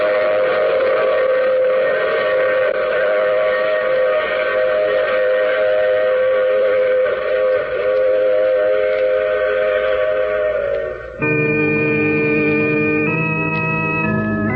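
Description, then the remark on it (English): A train rumbles along while a loud, sustained whistle blows continuously, its steady harmonic tones shifting pitch partway through, with no voices present. “Oh, you have to get off here. I'm sorry. I'm sure we'll meet again. I take this same train every week at this same time.”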